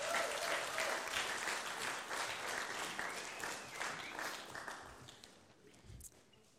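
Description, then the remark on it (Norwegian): Sustained applause from an audience for a group of young people in a small drama piece, a dense wash of clapping that holds steady for several seconds and then gradually thins and fades toward the end. “Ja, gi de en applaus. De fortjener applaus.”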